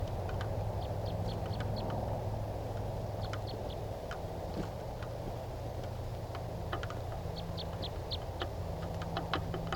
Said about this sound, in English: And it's been about 15 minutes and that wild type 3 bird is still calling from the top of a really tall spruce tree.